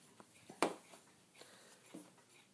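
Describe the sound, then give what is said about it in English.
Soft, irregular ticks and clicks from several clocks in a house, one sharper and louder than the rest, ticking out of step with one another. “How many clocks are running in here?”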